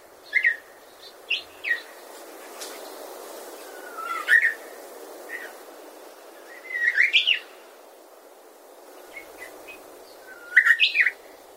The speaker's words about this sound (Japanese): 一冬を越したウグイスが昨シーズンの力強いさえずりを取り戻すまでのこうしたたどたどしい鳴き声もやはりサブソング、グゼリと呼びます。言うなれば、幼い鳥のグゼリは歌のお稽古、大人のウグイスの春のグゼリは歌のおさらいといったところでしょうか。